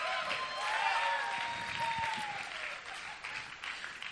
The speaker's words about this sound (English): They're on time tonight, but I also need to amen, we can applause for that.